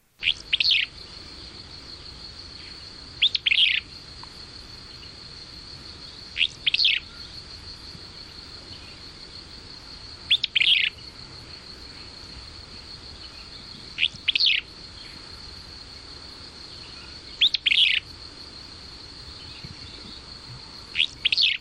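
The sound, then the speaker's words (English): A willow flycatcher, recorded at the Grand Canyon along the Colorado River, sings short, sneezy two-part phrases, repeated every few seconds, over a steady high insect drone with no voices. “There is considerable variety in the song of the willow flycatcher.”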